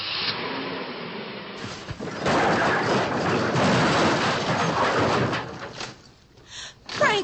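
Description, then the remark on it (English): A car left in high gear rolls away and tumbles off the road: a sustained, loud grinding rumble with scraping and clattering, then fading into a few scattered knocks and thuds. “Yeah, I left it in high. Good, we can throw it right off.”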